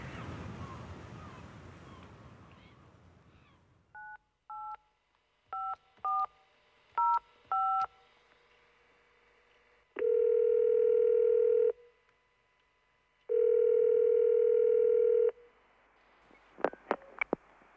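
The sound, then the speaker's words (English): After a rumble of wind-like noise, a quick series of touch-tone beeps dials a number for a call to America, followed by two long, steady ringing tones on the line and a brief click at the end. “Let's phone my brother in America.”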